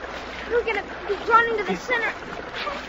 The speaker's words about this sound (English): Because there wasn't no way to get out of that there whirlpool. No way at all.